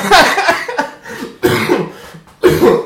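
cough

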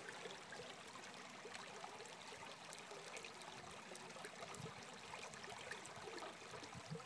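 creek water flowing

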